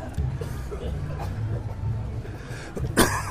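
Several people cough after police pepper spray in Portland, amid a murmuring outdoor crowd on Burnside, with a louder, harsh cough bursting out near the end over the steady background hubbub.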